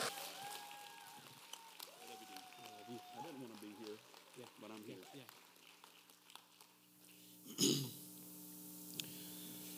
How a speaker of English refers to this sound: All right, I'm gonna try not to clear my throat as much as I can